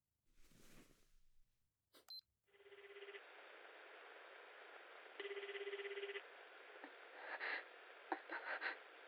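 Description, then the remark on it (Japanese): A short rustle and a click, then a telephone line ringing on the other end: two long, steady rings separated by a pause, heard through a thin, hissy line, ending with faint clicks. “もしもし、すみません、急にお電話してしまって。”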